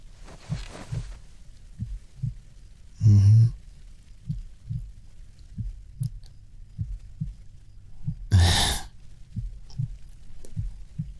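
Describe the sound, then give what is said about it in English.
A steady, muffled heartbeat thuds in a slow, regular rhythm, heard with a head resting on a person's chest. Two brief rustling bursts break in partway through. No one speaks. “That's right, just rest your head on my chest. I got you. Just listen to my heartbeat.”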